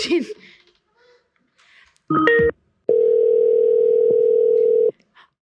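A brief voice at the start, then a quick burst of stacked dialing beeps as a call is placed to Toronto, followed by a loud, steady, mid-pitched telephone tone lasting about two seconds before cutting off.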